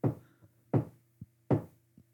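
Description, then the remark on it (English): Tapping on a car roof: three dull, low thumps at an even pace, each followed by a softer, lighter tap, with no voices. “Growing more fearful, the girl heard a faint tapping on the roof of the car.”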